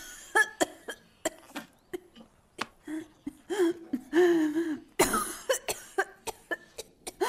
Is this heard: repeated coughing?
yes